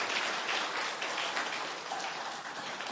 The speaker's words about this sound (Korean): 잠깐 일어나시면 우리 박수하도록 하겠습니다. 잘 오셨습니다.